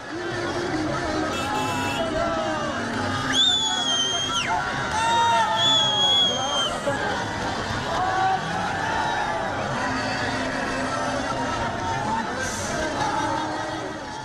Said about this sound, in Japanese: アメリカ軍が全面的な撤退を終了する月曜日の夜遅く、カブールの市民たちは歓声を上げ、車のクラクションを鳴らし続けました。